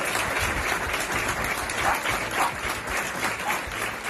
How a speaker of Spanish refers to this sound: Con este aplauso han roto los vecinos de este pueblo cántabro el minuto de silencio que se ha guardado esta mañana en homenaje a Silvia.